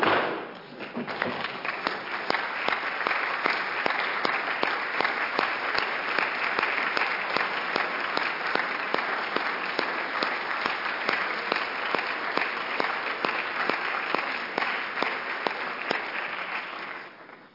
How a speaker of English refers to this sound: Welcome, Representative Oakley. Great to have you here. And I would note that I said earlier we don't applaud. That is one of the exceptions when we do applaud, when former legislators are here.